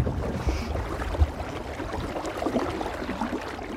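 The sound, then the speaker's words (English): Water gurgles and splashes steadily against a sailboat hull as the boat picks up speed in a freshening wind, a continuous bubbling rush with a couple of soft low thumps near the start and no voices. “I love that gurgling sound as the boat picks up.”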